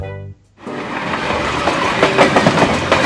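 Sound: train running on rails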